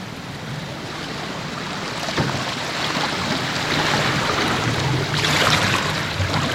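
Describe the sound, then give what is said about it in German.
Steady rushing and lapping of river water against the hull of a motorless cable ferry crossing the current, continuous and fairly loud, with some wind buffeting the microphone and no engine noise. “Und man hört dann die Geräusche vom Wasser, oder?”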